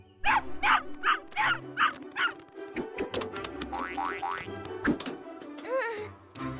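Puppies yip and bark in a rapid series of high-pitched calls, fairly loud, as they rush over and leap into a long rear metal bucket, followed by scattered clattering knocks and a few more yips near the end.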